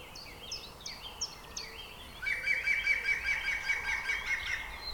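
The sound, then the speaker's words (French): A green woodpecker's song: a loud, rapid, laughing series of ringing notes that runs for about three seconds, preceded by a few shorter, higher chirps repeated in a row. “Son chant ressemble à un grand éclat de rire très sonore.”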